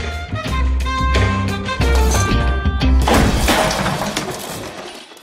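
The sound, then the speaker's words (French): In a scene from the film Whiplash, a music teacher hurls a chair at a young drummer. It crashes with a loud, clattering smash about halfway through, cutting across steady band music that plays beforehand, and the noisy crash fades out over the final seconds. “Pourquoi penses-tu que je t'ai balancé une chaise, Niman ?”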